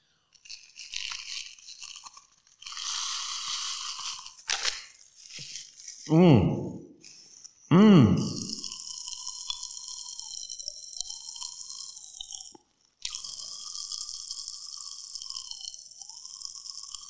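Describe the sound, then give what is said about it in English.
Pop Rocks popping candy from a little packet crackles and fizzes in a mouth, a dense, steady stream of tiny high-pitched snaps, with a couple of short voiced murmurs and a brief crinkly rustle near the start. “But I bought a little packet of it, and I'm going to try some here and see how they sound.”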